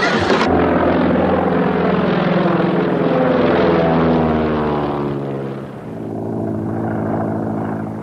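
aircraft flying

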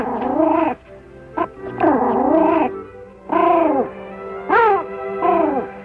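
dog whimpering

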